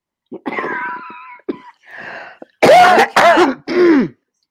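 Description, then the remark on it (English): A person clears their throat and coughs several times, with rough, raspy bursts ending in three loud, strained hacking coughs that carry a groaning, voiced quality. “I've just muted your mic while you were coughing.”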